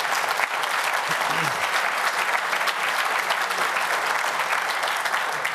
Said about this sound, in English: This is our team. I think these guys also love applause.